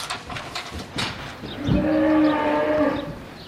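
bull bellowing

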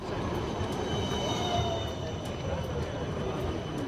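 tram running on rails

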